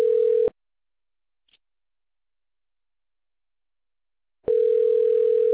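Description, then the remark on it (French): A telephone ringback tone: a steady, fairly loud electronic buzz sounds briefly, followed by about four seconds of silence before the next ring begins. No one speaks. “Un petit peu de téléphone, mais je me dépêche.”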